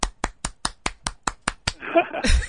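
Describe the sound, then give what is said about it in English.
An audience claps after a student's performance: about nine sharp, evenly spaced claps ring out in a steady rhythm, then give way to a brief burst of voices and crowd noise. “So you might have to clap.”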